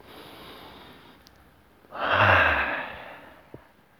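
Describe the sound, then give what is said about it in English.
A single slow, deep breath, a loud airy rush lasting about a second before it fades, with quiet room noise around it and no talking, taken during a guided morning breathing session. “Maybe some very slow breaths. Couple of big breaths.”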